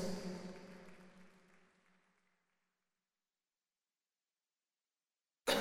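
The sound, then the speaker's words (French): A rich sustained note, presented as a concerto for a single note, fades away over about two seconds into complete silence, presented as a concerto for a silence, broken near the end by a single loud, abrupt cough. “Qui a toussé? C'est un outrage à cette œuvre.”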